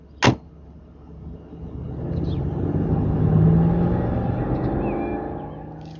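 A car door thuds shut, then an engine rumbles into life and the car pulls away, its low droning growl building and holding steady with faint clicks and rattles.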